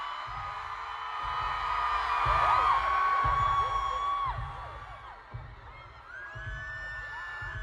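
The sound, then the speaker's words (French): A dense concert crowd screams and cheers with many overlapping high-pitched shrieks, swelling loud in the middle, while a steady low thumping beat pulses underneath. “l'ambiance était électrique. Mais au-delà des cris de l'euphorie, une question se pose.”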